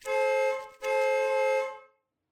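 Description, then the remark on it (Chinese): A car horn outside the window honks twice, a short blast and then a longer sustained one, loud and steady with no voices. “不过窗外响起的喇叭声把我从射精边缘拉了回来。”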